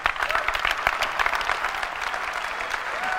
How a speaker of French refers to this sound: Alors, ce qui est intéressant, c'est que ces gens qui applaudissent, ce sont des journalistes. Ce n'est pas un fan club, ce sont des journalistes.